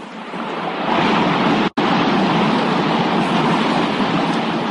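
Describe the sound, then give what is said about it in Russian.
A waterfall roars in a steady, dense rush of falling water that fills the whole clip, broken only by a momentary gap partway through. No voices. “Вот он, водопад!”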